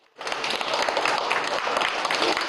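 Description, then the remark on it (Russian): Visitors at an exhibition break into loud, enthusiastic applause at the end of a talk; it starts abruptly and carries on steadily as a dense, even wash of clapping, with no voices standing out. “Все посетители выставки материал слушают внимательно и с интересом, задают вопросы, а бурные овации в конце – тому яркое подтверждение.”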